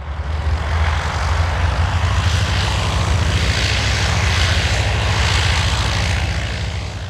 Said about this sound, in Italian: I motori Mercedes di 12 Aviatik Taube scuotono l'aria pesante. Aerei monoplano, chiamati Taube perché la loro forma era quella di una colomba, immagine della pace in mezzo a una guerra, una tragica ironia. Gli aerei, dicevo, iniziano a rullare